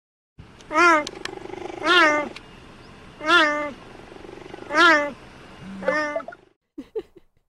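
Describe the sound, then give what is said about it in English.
Five drawn-out, harmonic meows in a slow, evenly spaced series, loud, each rising then falling; the calls sound oddly human, like a person imitating a cat rather than a domestic cat's meow. “They also just do a straight up meow. So here's the meow.”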